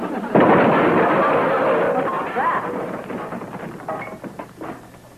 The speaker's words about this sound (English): Boswell, naughty dog. He keeps knocking over the stock.